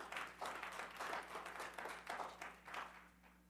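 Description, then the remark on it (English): A church audience applauding, a steady wash of many hands clapping that swells in waves for a few seconds over a low background hum. “You can clap.”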